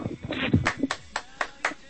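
A thin, sparse sampled applause effect: a handful of sharp, evenly spaced claps at a steady rhythm, following a brief murmur of voice at the start.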